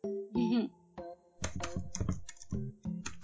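Quick, clattering keyboard typing as someone looks something up, a short burst of uneven key clicks, with brief bits of voice murmuring before and after.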